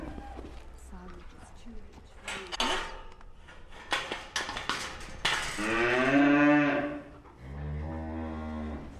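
Pedigree Limousin suckler cows bawl loudly and repeatedly, looking for nuts, long drawn-out moos overlapping one another, with clattering and faint background noise between calls.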